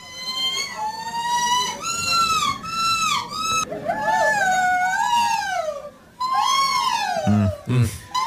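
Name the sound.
people imitating seagull calls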